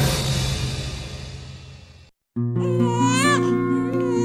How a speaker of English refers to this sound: The first cries of a newborn baby signal the miracle of life.